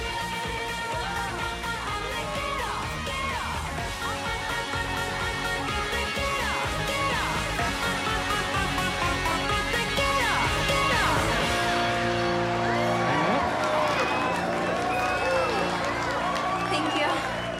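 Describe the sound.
A woman sings into another woman's face over loud, steady live music while a crowd yells, cheers and moves to the music around her, the whole scene dense and continuous, with her voice sliding up and down in pitch.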